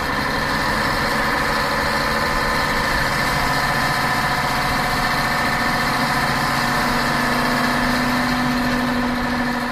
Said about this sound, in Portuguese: Te apressa que o motor do ônibus já tá roncando.